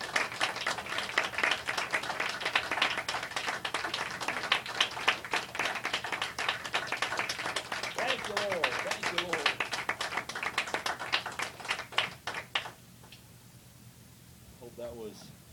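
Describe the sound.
An audience applauds in a hand clap of praise and worship, dense, steady clapping for about twelve seconds, voices calling out beneath it, before the clapping stops abruptly and a single voice briefly rises.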